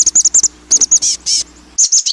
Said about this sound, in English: Now listen to the chestnut-backed call. It's higher-pitched, faster, and has a buzzy quality. Once again, the black-capped chickadee. Now the chestnut-backed chickadee.